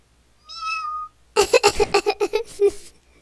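A cat gives one drawn-out, high-pitched meow, then after a short pause lets out a quick, choppy run of about nine short chirping mews, fairly close and clear.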